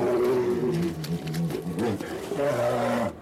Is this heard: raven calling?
no